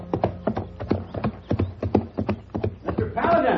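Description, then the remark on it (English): Horse hooves clip-clop in a steady, even rhythm at a walking pace, clear, with a dozen or so distinct hoof strikes over a few seconds, as a rider sets out on a horse from a railroad station about a mile outside town toward a ranch. “The railroad station was about a mile outside of town, and the judge had sent a horse for me to use and had left word that I should go on out to the ranch.”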